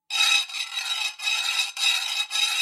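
A man saws through one of the elephant Airavat's tusks: a steady, harsh rasping in about five back-and-forth strokes with brief pauses between, bright and gritty, with no voices.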